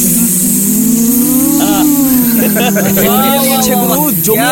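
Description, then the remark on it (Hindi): Several girls imitate buzzing bees together, a loud, continuous droning hum with wavering pitch that rises and dips, holding steadily for several seconds. “भाई, लड़कियों, वो मधुमक्खी की आवाज प्लीज।”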